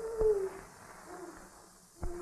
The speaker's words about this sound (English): That's a very fine sounding owl. All owls sound alike.